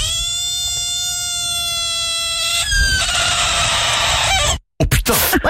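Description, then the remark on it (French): A green frog, crying to ward off a threat, gives a long, shrill, steady wail for about three seconds, then a harsher, raspier scream, a brief silence, and a few more ragged cries, all loud. “à ton avis, est-ce que c'est une grenouille verte qui crie pour éloigner une menace?”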